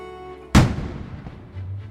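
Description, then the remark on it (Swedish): A single loud cannon blast of a salute over Stockholm in November 1778, one of 1024 shots fired for the birth of a crown prince, booms out suddenly, followed by a long rolling echo that fades away, with a low rumble lingering underneath. No one speaks. “I november 1778 dånar kanonsaluten över Stockholm.”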